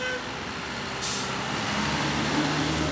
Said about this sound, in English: And just outside his office, a fancy new Washington, D.C. Metro bus pulls away. The D.C. Metro bus system has a newer fleet that has the newer engines from the Cummins company.